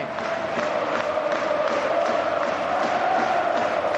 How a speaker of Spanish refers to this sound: Y aplaude, y canta, y festeja este Estadio Carlos Tartiere, el Fondo Norte.